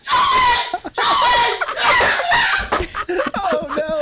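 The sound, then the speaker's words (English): A grown man, probably in his 40s or 50s, screams in panic in his home office at a squirrel that got into his home, a series of loud, high-pitched shrieks in quick succession that break into shorter, choppier yelps toward the end. “His screams and his terror got progressively higher.”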